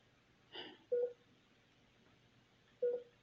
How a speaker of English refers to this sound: This fucking machine is annoying the shit out of me. All it fucking does is beep. Yeah, I know it monitors my heart.